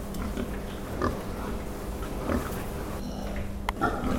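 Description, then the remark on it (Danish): Breeding sows grunting in a pig barn on a farm with 1,200 sows, a dense overlapping chorus of low grunts and snorts with a few sharper squeals, steady and filling the space without any talk. “Vi har 1200 sør, årsør, som man siger, og vi køber 600 ind om året.”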